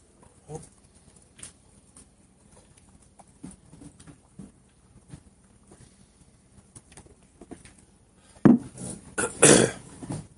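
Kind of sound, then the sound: human body sound, coughing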